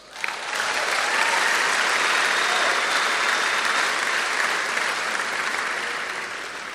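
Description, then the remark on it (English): An audience claps for Jesus, a dense, sustained wash of applause that starts abruptly and stays at an even loudness for several seconds before easing slightly at the end. “So it's Jesus, hey? Can we clap to him?”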